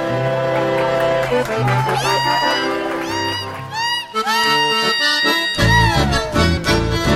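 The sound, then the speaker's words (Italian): A sapucai rings out over lively chamamé music: high, wavering shouted cries that swoop and slide in pitch, rising above steady accordion chords and a pulsing bass, loud and exuberant. “Quello che si ascolta è un sapucai.”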